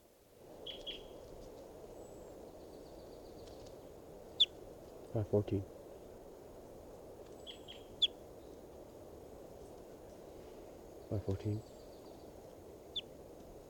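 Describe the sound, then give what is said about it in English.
Bird calls from bird 514, recorded during a recording test: short, high chirps and whistles repeat at irregular intervals, with two brief bursts of lower, hoot-like calls, all over a steady low background hum. “Recording testing bird 514.”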